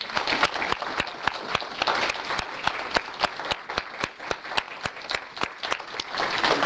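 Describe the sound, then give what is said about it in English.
An audience applauds the facilitators for their hard work, dense overlapping claps forming a continuous crackling wash with sharper individual claps standing out, holding at an even, moderate level throughout with no talking. “I'd like to give them an applause for all the hard work that they've done for.”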